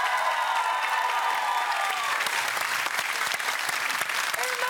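A TV game show studio audience breaks into loud, sustained applause as the returning champion family is introduced for their fifth night, a dense wash of clapping that holds steady for several seconds with a brief tonal ring mixed in at the start.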